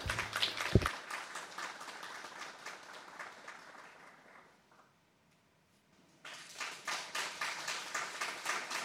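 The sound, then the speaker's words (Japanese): Dense audience applause for a classical singer and pianist about to perform fades to near silence around the middle, then a fresh burst of clapping returns and continues steadily to the end. “どうぞ拍手をお送りください。”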